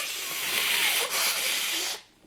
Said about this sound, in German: Ich muss mal gerade Nase putzen.